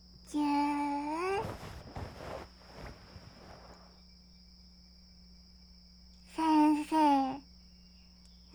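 A cat gives a long, loud meow, followed by some brief rustling, then two more quick meows a few seconds later over a faint, steady background hum.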